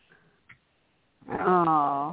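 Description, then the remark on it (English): A tiny female Chihuahua puppy, brought home from Florida, lets out one drawn-out, wavering whimper, loud, after a second of near silence broken by a faint click. “It's a Chihuahua, yeah. So it's a little tiny thing.”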